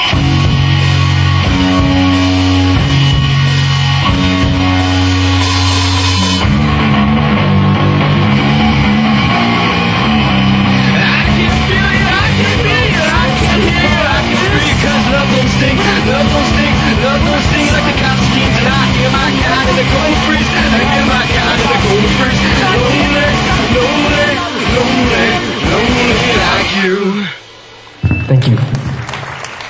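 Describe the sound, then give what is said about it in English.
A live band plays a song loudly and continuously, with a full mix of sustained notes and a driving beat that cuts out briefly just before the end. “Alright, this next song goes out to the guy who keeps yelling from the balcony.”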